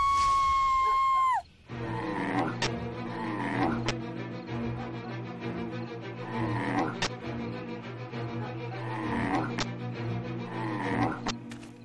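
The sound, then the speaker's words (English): A brief high, wavering howl gives way to a loud, dense chorus of snarling and barking dogs at Hoab, with sharp bursts punching through every second or so. “Its dogs make scary sounds.”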